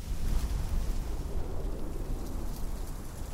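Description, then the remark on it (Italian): A furious gust of wind roars in a dense, low rumble with a hissing edge, strong at the start and holding steady throughout, with no voices. “Poi all'improvviso si levò un vento furioso.”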